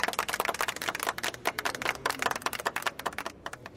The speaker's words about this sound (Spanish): Bueno, gente, quiero decir que estoy orgulloso de ustedes. Muy contento de haber tenido la oportunidad de trabajar con ustedes. Quiero que todos nos demos un aplauso bien fuerte y bien sincero.